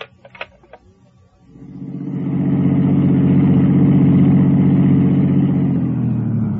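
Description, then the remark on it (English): After a few faint clicks, a car engine rumbles to life and holds a steady, loud idle with a low throbbing hum until the end as the car is parked. No voices are heard. “I parked my car, went on upstairs, opened the door”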